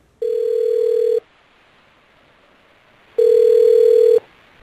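Two steady, buzzing telephone ringing tones, each lasting about a second, separated by a two-second pause, as the county magistrate of Chenliu calls Li Yiji to congratulate him on his new job. No voices, just the clear, evenly loud tone.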